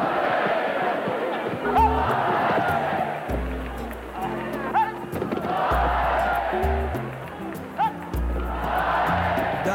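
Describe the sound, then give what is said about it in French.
A large bullring crowd yells and roars continuously, with loud individual shouts rising above the dense din at intervals throughout, sustained. “Et ils les ont sortis au milieu de la foule, les mêmes crétins hurlants qu'aujourd'hui.”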